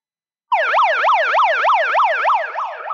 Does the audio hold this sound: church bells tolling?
no